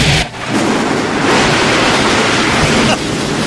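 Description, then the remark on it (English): A loud thunderclap at the end of a song breaks into a dense, steady roar of heavy rain, the rumbling wash of noise filling the whole few seconds with no voices. “And then, of course, the song ends with the biggest thunderclap in the history of thunderclaps.”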